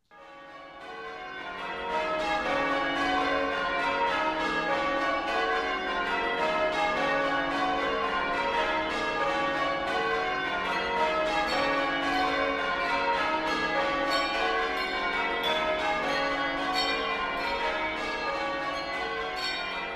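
A full peal of church bells opens a Celtic Christmas song, many overlapping strikes with long ringing overtones, swelling in quickly and staying loud throughout. No one speaks.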